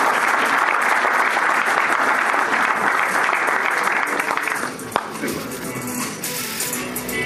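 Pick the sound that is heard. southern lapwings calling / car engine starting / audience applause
audience applause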